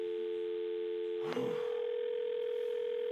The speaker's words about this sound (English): Nice ringtone.